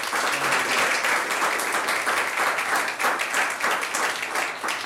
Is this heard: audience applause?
yes